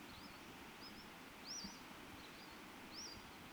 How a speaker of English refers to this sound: I think the two birds problem, two singing males in this background,